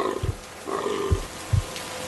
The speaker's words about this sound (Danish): Den lille hjort piver, og hun er nødt til at sætte dyret ud af sin lidelse.